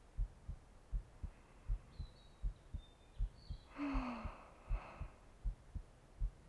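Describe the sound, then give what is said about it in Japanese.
A steady heartbeat, heard through a person's chest, thumps in muffled double beats at an even pace, with a soft breathy sound swelling briefly partway through. No one speaks. “どうじゃ、ちぶさ越しにも心臓の音が聞こえるであろう。”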